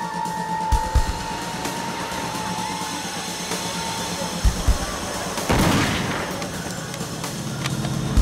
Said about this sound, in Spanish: Luego ambos fueron confrontados por Jacob Davis, quien portaba un rifle. Susie dijo que se hicieron 3 disparos.